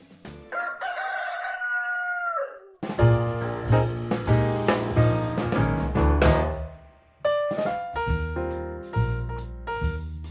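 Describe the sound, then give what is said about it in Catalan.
A rooster of the native Penedès breed lets out one long, loud crow, its strained call rising and trailing off, then bright instrumental music with a steady beat takes over. “Gall del Penedès, amb IGP, la raça del gall i la gallina autòctones del Penedès, és l'eix, no?, de la nostra Fira del Gall i és un eix identitari, podríem dir, de ciutat, de Vilafranca i, per extensió, de vegueria.”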